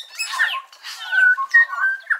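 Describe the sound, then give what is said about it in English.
A New Zealand bellbird (korimako) sings in a forest in New Zealand: a short series of clear, ringing notes mixed with brief chattery bursts, several phrases in quick succession, with no voices. “A forest in New Zealand rings with the sound of bellbirds, whose indigenous name is Korimako.”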